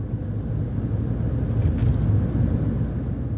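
A steady, loud low rumble of a car driving from the northern shore of Poyang Lake in China toward the Yangtze River, with continuous road and engine noise throughout and no voices.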